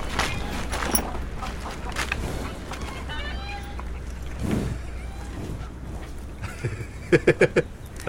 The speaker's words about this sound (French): C'est un cheval, il y a une vingtaine d'années, maintenant. Et je l'ai sauvé parce qu'ils s'en allaient justement à l'abattoir.